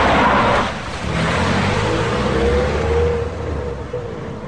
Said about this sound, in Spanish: Es de noche y llueve. Llegamos a casa. Bajo del coche. Me despido.